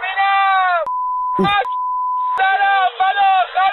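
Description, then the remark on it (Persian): A censorship bleep covering swear words in a recorded report: a steady, loud, high-pitched tone lasting about one and a half seconds cuts over a raised voice, broken briefly by a snatch of speech, before the talking resumes. “پیش از پخش این گزارش خاطر نشان میکنم که در این گزارش نور شدید فلاش دوربین و تعدادی فحش و الفاظ بدبد وجود دارد که بر روی آنها بیبگذاری مناسب صورت گرفته است.”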